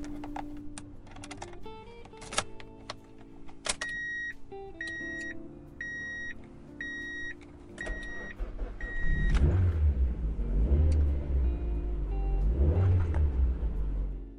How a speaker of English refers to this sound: So I picked up my car keys, locked the house's door, and started to walk towards my car. I got in my car and revved my engine.